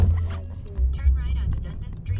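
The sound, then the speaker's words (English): A steady low engine and road rumble fills the inside of a moving rental car on its way to a small town in Ontario, Canada, with indistinct voices murmuring over the drone for a couple of seconds. “In our rental car, on our way to small town Ontario.”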